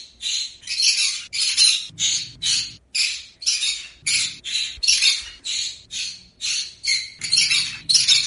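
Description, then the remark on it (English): A pet bird named Ari screams for attention and food over and over in harsh, raspy bursts, about two per second, loud and grating with no pause, alone without any talking. “Ari's just the embodiment of a toddler, constantly wanting attention and food. And if he doesn't get it, he screams.”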